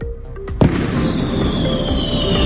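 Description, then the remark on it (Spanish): A sharp firework bang pops out early, followed by a dense, continuous rumble and crackle of New Year's Eve fireworks launched from four different points across the city of Valencia, Spain, with a faint whistling tone drifting above the noisy outdoor din. “Cuatro castillos de fuegos artificiales lanzados desde cuatro puntos diferentes de la ciudad de Valencia iluminaron la capital en una noche en la que la fiesta en la plaza del Ayuntamiento se prolongó hasta las 4 de la madrugada”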